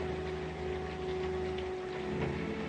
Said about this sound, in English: He approaches a window with a wooden grate and stares out at the relentless downpour. Oh, this rain. It begins and stops the same time every day, doesn't it?